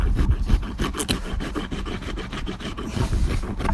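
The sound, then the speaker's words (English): A rasp files the hoof of a horse named George in quick, steady back-and-forth strokes during hoof trimming, each a coarse, gritty scrape repeated many times in a fairly loud, even rhythm with no voices. “Stay there, because I've got to get the rasp.”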